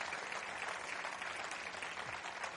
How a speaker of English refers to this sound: Come on, give them a great clap off here, would you?